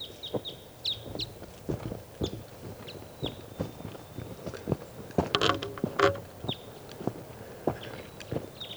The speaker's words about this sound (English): Wild bird.